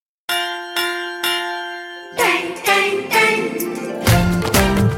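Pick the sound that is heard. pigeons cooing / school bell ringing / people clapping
school bell ringing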